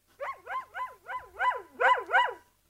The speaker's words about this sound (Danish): Ja, det er selvfølgelig menneskets allerbedste ven. For det er der ren idyl at leve sammen med menneskets bedste ven. Hunden, vi elsker den alle sammen.